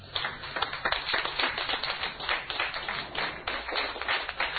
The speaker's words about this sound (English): Give him a cheer.